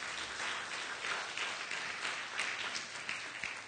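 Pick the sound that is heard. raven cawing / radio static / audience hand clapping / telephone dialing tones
audience hand clapping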